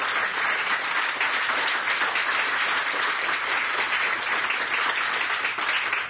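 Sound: audience applauding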